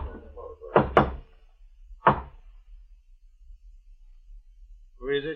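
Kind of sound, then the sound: impact, knocking on a door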